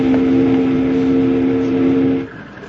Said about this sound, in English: Pull that whistle cord again, Jingles.